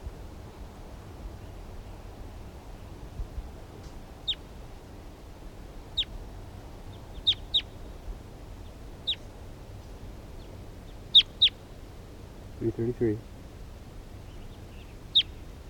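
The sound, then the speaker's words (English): A wild bird in the distance gives short, sharp, high-pitched calls spaced irregularly, some in quick pairs, over a low steady rumble; a brief lower burst of noise comes near the end. “Wild bird in the distance.”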